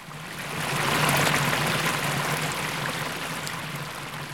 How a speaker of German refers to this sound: Es ist Bodenseewasser, das hier aus dem Brunnen spritzt.